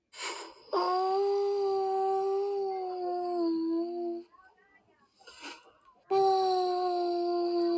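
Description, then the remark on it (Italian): A wolf howls in a long, steady, loud call lasting several seconds, followed after a brief quiet murmur by a second howl that begins just as strongly. “Un giorno arrivò il lupo che soffiò forte sulla casa di paglia fino a farla crollare.”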